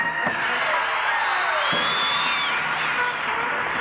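A steady wash of crowd applause and cheering at a live country music show for a steel guitar player, with dense clapping and a few rising whoops or whistles riding on top, holding loud and even throughout.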